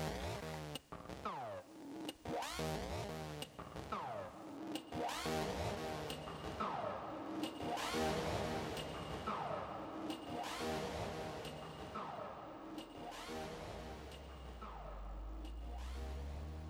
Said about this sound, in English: We drive around in our smart convertible car and we are on the mission to destroy Anti-Snake. Here we drive. Lapland, here we come. Zebra FM is on as we are bullet speeding on the fast lane of the tunnel.